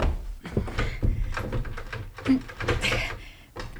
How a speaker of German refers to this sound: Die Tür klemmt.